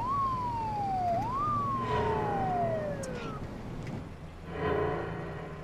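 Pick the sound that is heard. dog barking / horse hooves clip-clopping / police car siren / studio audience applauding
police car siren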